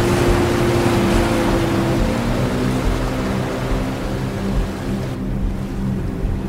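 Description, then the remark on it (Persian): A motorboat carrying several guards drones steadily across the sea, its low rumble and hum constant, with water noise washing underneath and no voices. “اون با چند تا نگهبان توی قایق موتوری روی آب دریا.”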